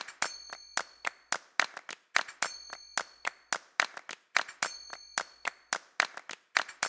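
Crisp hand claps repeat in a steady, looping rhythm, interleaved with bright, ringing finger-cymbal strikes whose high metallic tones shimmer briefly. No voices are heard.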